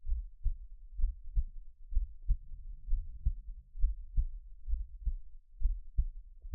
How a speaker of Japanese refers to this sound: どうですか？ドクンドクンって心音聞いていると、なんだか安らいできませんか？